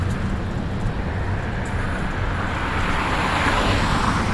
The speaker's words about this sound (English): Let these buses and trucks go by.